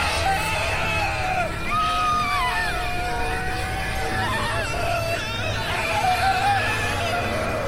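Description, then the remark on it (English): Two children scream in terror, their high, wavering cries overlapping and sustained, loud, rising and falling without pause against a noisy background. “Sasha and Jerry clutched each other and screamed.”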